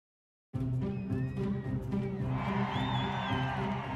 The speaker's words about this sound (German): Um Punkt 0 Uhr ist es soweit. Die Tür öffnet sich. Jubel brandet auf, Freudenschreie sind zu hören. In die Menschenmenge kommt Bewegung.